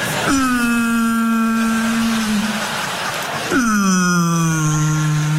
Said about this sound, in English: Whales always kind of sound depressed, don't they?